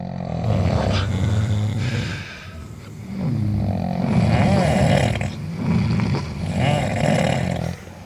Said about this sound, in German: Herrlich. Schnarchkonzert vom Schweizer Militär. 1900 wenn? 95. In C-Dur. Röchelverzeichnis 230, oder so würde ich sagen.